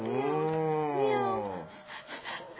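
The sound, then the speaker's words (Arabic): A voice imitates a long, drawn-out cat meow, rising and then falling in pitch for about a second and a half, loud, followed by a brief breathy, rustling tail. “لقد كذبت عليك كذبة واحدة، كنت أظنها كذبة بيضاء، فأخذتني تلك الكذبة إلى أخرى وأخرى، مياو، إلى أن تحولت الكذبة الواحدة إلى سلسلة من الكذب.”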